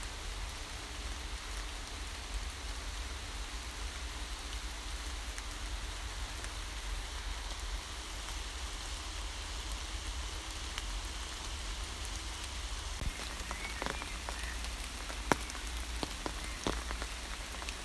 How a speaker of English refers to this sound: I've just come to a little stream that runs through the middle of these woods. It's actually not that full at the moment. With all this rain, you'd think it might be a bit fuller, but it is reasonably dry.